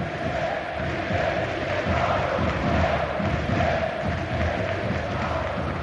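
A large stadium crowd applauds and roars for Piqué, who is about to be substituted, in a dense, steady wash of sound that stays loud and unbroken for several seconds, with no single voice standing out.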